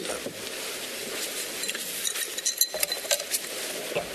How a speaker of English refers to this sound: Now, I'm going to play it. Listen to the sound of the ice tinkling in the lawyer's water glass as he's trying to clear his throat.